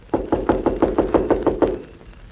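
knocking on a door

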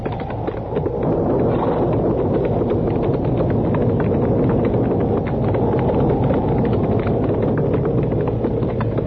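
horses' hooves clip-clopping

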